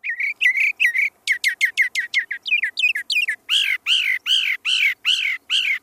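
A bird sings alone in a rapid, varied series: quick high chirps and trills give way to loud, repeated arching notes, each sweeping up and down in pitch, with no talking.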